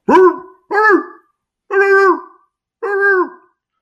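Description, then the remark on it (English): A voice imitates a T-Rex barking like a dog: four loud, drawn-out barks spaced roughly a second apart, each a short voiced bark, with no other sound around them. “When all of a sudden, the T-Rex dropped the stick at his feet and started barking at him.”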